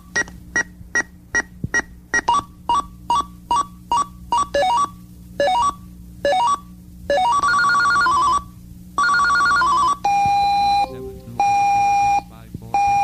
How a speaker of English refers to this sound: Set alarm sound. All right, you want to hear all the alarm sounds, don't you? Okay.